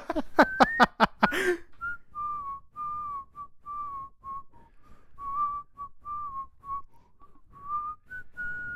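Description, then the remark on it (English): Someone whistles the slow, steady melody of a song for several seconds, a string of sustained notes with small pitch glides, clear, after a brief burst of sharper sounds at the start. “You're in fuego with your whistling today.”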